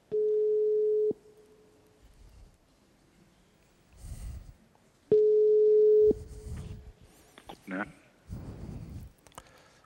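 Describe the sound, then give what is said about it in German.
As a presenter places a short phone call during an event, a steady telephone ringback tone sounds twice, each a clear one-second beep about four seconds apart, with soft rustling and muffled background noises in between. “Ja, wir kommen jetzt zum nächsten Vortragenden, aber ich muss vorher noch, wenn Sie entschuldigen, ein ganz kurzes Telefonat führen.”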